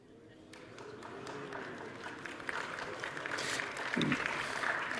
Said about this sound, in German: Ihr kennt das Experiment noch gar nicht, warum klatscht ihr jetzt schon?